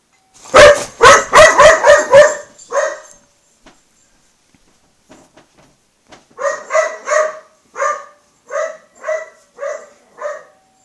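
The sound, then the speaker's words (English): A quick flurry of loud sounds from an email notification on a phone, a few seconds of near silence, then a dog barks about eight times in a steady, evenly spaced rhythm. No one speaks. “dogs sometimes just don't forget things, and this notification she has for her email on her phone will demonstrate.”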